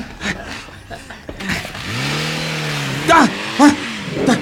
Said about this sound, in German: Da fährt ein Auto weg.